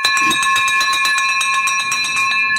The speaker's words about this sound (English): I've got to get the victory bell. You ready for this? Because that is pretty dang unique. You hold on one sec. Get ready for the victory bell.